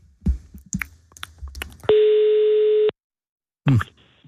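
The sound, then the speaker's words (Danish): A single long telephone ringing tone of an outgoing call to Flakkebjerg School Museum near Slagelse, Denmark, a steady electronic tone held for about a second, follows a short burst of brief clicks and bumps, then silence before a short muffled sound. “du sidder og ringer op, så kan vi høre, hvad man kan opleve på Flakkebjerg Skolemuseum.”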